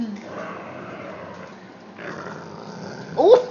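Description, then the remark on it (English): A dog growls over a bone in a low, steady rumble for a few seconds, rising into a louder, sharper snarl right at the end. “Don't growl at him, just get the bone.”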